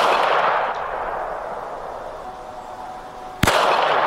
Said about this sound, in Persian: اینجا در سنندج در حالی که مأموران با خشونت یک جوان معترض را دستگیر کردند، به معترضین دیگر شلیک می‌کنند.